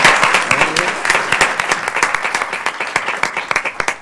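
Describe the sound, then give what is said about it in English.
An audience breaks into a round of applause to acknowledge the team that prepared a strategy, many hands clapping in a dense, steady patter that stays fairly loud throughout, with sharp individual claps standing out near the end. “Can we acknowledge them? I'll give them a round of applause.”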